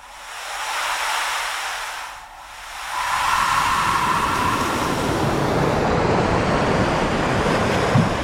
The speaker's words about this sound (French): C'est ça qui est marrant aussi, c'est qu'il n'y a pas de vagues pareilles. D'ailleurs, quand vous regardez la mer, vous n'allez pas voir de vagues pareilles.